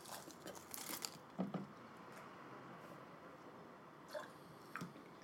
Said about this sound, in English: But he's still chewing on the chocolate and he's just sipping it at the same time, whatever.